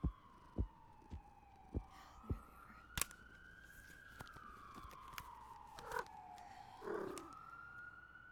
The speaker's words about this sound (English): I'm so tired of these sirens. Where are my headphones?